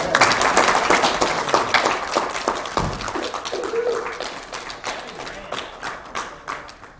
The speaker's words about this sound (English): All right, let's just give the Lord a hand clap. Yes.